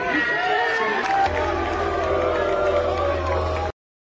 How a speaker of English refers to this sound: Wow. Wow. I mean, dude, literally getting booed off stage. That is insane. You have people yelling at him, and what a comment there.